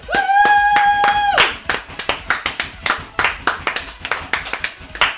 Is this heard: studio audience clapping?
yes